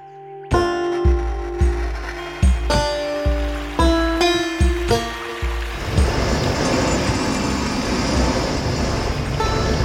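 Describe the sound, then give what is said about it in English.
A boat's hull bumps and scrapes in a series of loud, resonant knocks as it slides down a chute between two large pools, then lands in a sustained rush of splashing water below. “Take the boat down a chute between two of the larger pools, and the bottom scrapes all the way down before splashing into the water below.”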